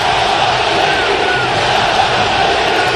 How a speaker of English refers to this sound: This is courtesy of NBC Sports California, where A's fans were chanting, sell the team, during a reverse boycott last night. You heard the crowd go silent and now getting very loud at the Coliseum.